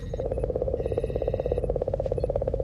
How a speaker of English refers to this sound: it says Comet 67P Rosetta Reference Tape